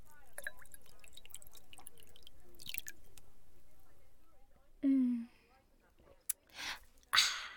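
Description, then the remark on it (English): Punch dripping down a chin: wet dripping and squishy, smacking sounds, with soft irregular patters at first, then a short low sliding vocal sound and a few sharper hissing bursts near the end. “It's dripping down your chin.”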